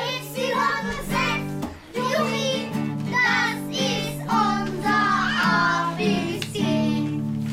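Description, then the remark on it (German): A group of children sings together in unison before the lunch break, the voices steady over sustained low tones, with a brief dip in the middle before the song carries on. “Vor der Mittagspause kommen dann alle zusammen und singen.”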